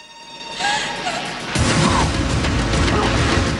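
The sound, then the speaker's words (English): A loud burst of gunfire from the heavies opening fire on a booth shatters its large glass window, the crash swelling into a dense, sustained wash of breaking glass and noise that continues to the end. “Hearing Marianne's cry, the heavies open fire on the booth, smashing the large window.”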